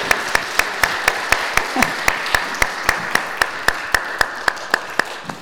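An audience claps together in a steady, even rhythm, sharp loud claps landing about four times a second over a soft wash of crowd noise, with no talking.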